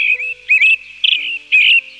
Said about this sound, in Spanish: Este característico y melodioso canto es del zorzal. Lleno de trinos y silbidos, lo reconocemos fácilmente en tierras de cultivo, matorrales, bosques, así como también en jardines y plazas, porque siendo un ave silvestre, también es común en zonas